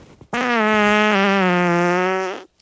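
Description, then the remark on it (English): A single long, loud fart with a steady, reedy buzzing tone that holds for about two seconds, wavering briefly midway before tapering off, heard alone with no talking. “Can we hear that fart again? That same one.”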